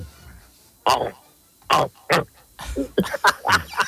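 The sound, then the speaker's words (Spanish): A man imitates the noise of a large wild boar with big tusks using his voice, making a few loud, separate snorting grunts followed by a quicker run of rough grunts and huffs. “Ahora mismo un cochino grande con buen navajero que llamamos... hace un ruido que...”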